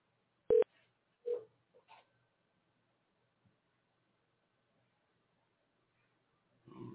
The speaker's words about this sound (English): I hear your number ringing.